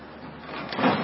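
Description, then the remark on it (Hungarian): A door is shut hard with force, a rising scraping rush of noise that swells to a muffled thud near the end, fairly loud, with no voices. “Nagyon keményen kell becsukni.”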